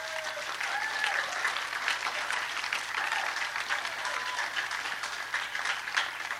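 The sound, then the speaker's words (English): An audience claps steadily for several seconds to welcome a hammered dulcimer player of Dungannon, Virginia onto the stage, a dense, even wash of hand claps at moderate volume, with a few faint whistles or cheers rising briefly through it. “Let's clap him onto the stage.”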